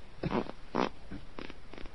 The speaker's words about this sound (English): I love farts. Farts are great.